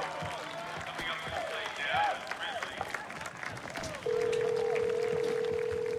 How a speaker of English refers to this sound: He leaves his seat and dials his phone.